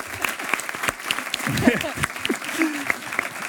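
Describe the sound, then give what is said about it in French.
Steady applause from an audience as Camélia Jordana arrives, dense clapping throughout with some voices and cheers mixed in underneath. “Mesdames et messieurs, sous vos applaudissements, elle arrive.”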